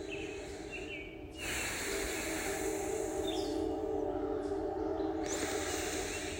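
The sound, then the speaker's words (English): A steady, forceful breathy rush of air pushed out through both nostrils during a breathing exercise, fairly loud, surging in strength early on and then holding as a continuous hiss with no talking. “I'm gonna squeeze some air out with that train whistle.”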